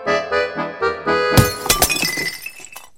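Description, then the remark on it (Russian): A few soft tonal musical notes give way to a sudden loud burst of shattering glass as a large cork-sealed glass bottle of fermenting homemade cherry wine explodes, followed by scattered tinkling shards that fade out over a second or so. “Бутыль взорвалась неожиданно, как бомба.”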